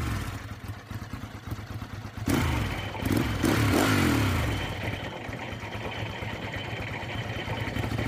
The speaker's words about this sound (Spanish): Y me consigo otra cadena y ya ahí puse la moto en el burro bien y ya... Prende la moto y ya, y empieza a trabajar solo.